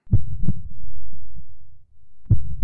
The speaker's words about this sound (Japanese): 私の心臓は、これまでにないくらい、ドキドキしていた。